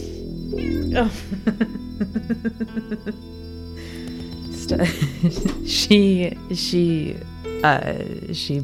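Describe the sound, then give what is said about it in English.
A cat meows while biting a person, letting out a string of short, rhythmic cries followed by longer, drawn-out yowls, with indistinct voice sounds and a steady low hum underneath. “Oh my gosh, sorry, the cat's biting me.”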